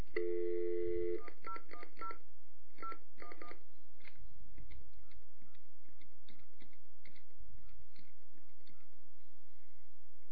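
A phone number is punched in on a keypad: one long touch-tone beep, then a quick run of short dual-tone beeps, followed by a few seconds of low, crackly line noise with no talking.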